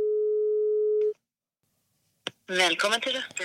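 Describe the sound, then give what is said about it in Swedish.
A single steady telephone ringback tone lasting about a second, followed by a brief silence and a click, then a recorded voicemail greeting in Swedish begins speaking clearly as the call goes to voicemail. “Nu ringer jag.”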